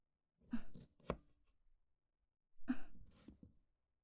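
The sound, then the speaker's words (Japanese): A knife cuts through washed lemons on a cutting board, slicing them 2 to 3 mm thick, in two short bursts of slicing, with a sharp tap against the board partway through the first. No one speaks. “レモンは皮をしっかりと洗い、2、3ミリの厚さにスライスします。”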